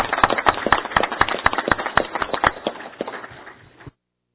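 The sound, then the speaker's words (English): A group applauds with a dense, irregular patter of claps, steady and fairly loud for several seconds before thinning out and stopping abruptly. No one speaks. “So I'd like to give a round of applause for Chad.”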